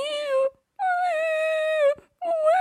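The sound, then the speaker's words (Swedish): Orca calls recorded underwater, signals sent out by a young orca separated from its family pod and unable to find its way back: three drawn-out, wailing tonal cries with rich harmonics, each holding a steady pitch with slight bends, separated by short silences. No one speaks. “De hade då spelat in signaler under vattnet.”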